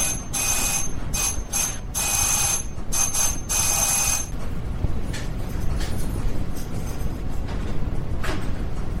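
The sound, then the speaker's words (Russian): An electric doorbell rings in a run of insistent, rattling buzzes for about four seconds, loud, then cuts off, leaving only a low background rumble. “О, тихо, кто-то звонит в дверь.”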